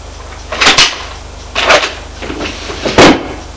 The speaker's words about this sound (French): Il ouvrit le tiroir de la table de nuit, une boîte pour prendre deux sucres.